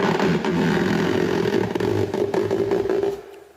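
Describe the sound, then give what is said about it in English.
A rubber dog toy dragged across a window pane makes a steady, loud groaning squeal with a buzzing, rumbly edge for about three seconds before cutting off abruptly. “a rubber dog toy dragged across a window pane. and a balloon.”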